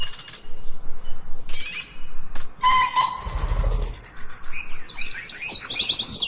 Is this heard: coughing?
no